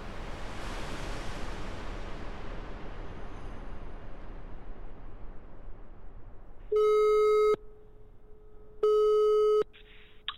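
A fading rush of noise gives way to the ringing tone of a telephone call from Denmark: two loud, steady electronic tones, each under a second long, spaced about a second apart. No one speaks.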